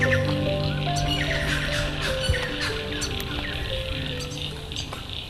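A steady chorus of frogs calling over continuous running water, with bright chirps and croaks overlapping throughout alongside a low sustained hum. No one speaks.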